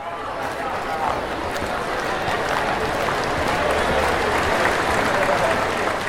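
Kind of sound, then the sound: crowd, crowd applause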